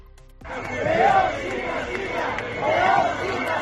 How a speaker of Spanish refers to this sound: Al grito de León sin Castilla, cientos de manifestantes se obligaron a la suspensión de las actividades programadas por la Junta.